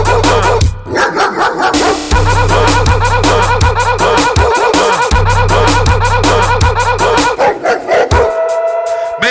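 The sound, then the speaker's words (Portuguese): Several dogs bark and howl in rapid, overlapping bursts, loud, layered over a heavy thumping bass beat that runs throughout. “Meia-noite os cachorro tá na rua.”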